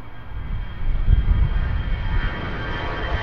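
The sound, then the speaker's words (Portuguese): A loud airplane roars overhead near Lisbon airport, Portugal, above the neighbourhoods beside it, a broad, steady rumble heavy in the low end that swells around the middle and stays strong, with no talking. “A jornalista Paula Verã foi aos bairros situados junto ao aeroporto de Lisboa e ouviu as queixas de quem vive a ver e ouvir os aviões passar.”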